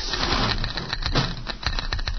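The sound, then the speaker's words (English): A Geiger counter, used to trace a signal inside a cabin and reading strongest near a wall cabinet, clicks rapidly and irregularly, its sharp ticks crowding into a steady crackle that holds at a fairly even loudness throughout, with no voices over it. “Listen to that counter. Strongest over here.”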